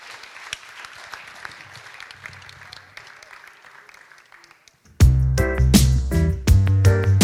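A crowd claps steadily in a dense, crackling wash that gradually thins out, then loud music with a heavy beat abruptly cuts in over the last couple of seconds.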